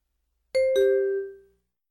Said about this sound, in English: Today, many schools use bells to mark the time. The bell rings when it is time for class to begin.